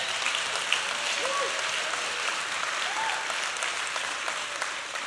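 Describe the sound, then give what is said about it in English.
A crowd applauds this year's camp counselors steadily, a dense wash of many hands clapping at an even, fairly loud level for several seconds, with a few faint tonal blips poking through. “Yeah, let's clap for them.”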